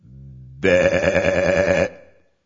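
A single sheep bleats up close: a soft, low opening sound, then a loud, quavering, wavering cry lasting over a second before it fades out. No voices are heard.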